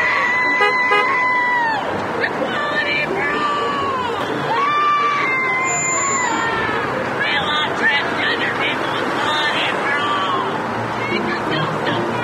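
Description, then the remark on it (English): A large protest crowd at Penn State screams and shouts nonstop, chanting "Penn State! We are! Not straight! We are!", with piercing voices rising and falling over a dense roar of chanting. The noise is loud throughout, with no clear single speaker. “What can you say to these unhinged, screaming liberals?”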